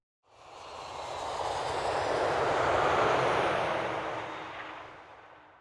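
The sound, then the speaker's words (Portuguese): A broad, roaring rush of aircraft noise swells over a few seconds, peaks, then slowly fades as a plane passes overhead landing on Faial Island in the Azores; no voices. “O avião aterra na Ilha do Faial.”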